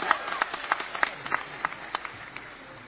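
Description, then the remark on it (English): An audience claps for Jesus together in a steady, even rhythm, the beats coming quickly and regularly over a dense wash of many hands. “Come on, clap for Jesus.”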